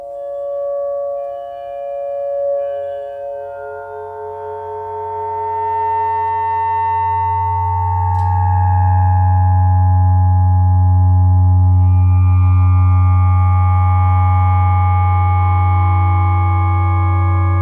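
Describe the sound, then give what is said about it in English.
Two mounted metal dishes, found objects, are kept resonating together with plastic cutlery, ringing out in layered, sustained tones, a deep droning hum swelling louder halfway through beneath shimmering higher overtones; no one speaks. “The second dish is now installed and it's now ready to be resonated.”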